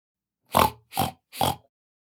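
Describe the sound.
A person imitates a pig's oink three times in a row, short nasal grunting bursts evenly spaced, fairly loud, with silence between them.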